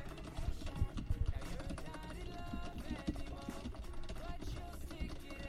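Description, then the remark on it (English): Rapid, frantic clacking of computer keys being mashed while playing a fighting game, a dense and continuous flurry of clicks with busy background sounds underneath. “The intense keyboard matching sounds resume as I beat up”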